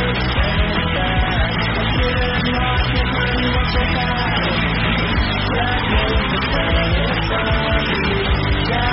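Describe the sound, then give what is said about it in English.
A person yells loudly and almost without pause, the raised voice strained and continuous, dense over a rough, busy background for the whole stretch. “Stop shouting at people.”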